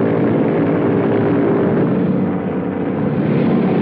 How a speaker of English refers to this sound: Next morning, German pilots run to their biplanes and climb in. When a worker waves a flag, the planes roll across the airfield.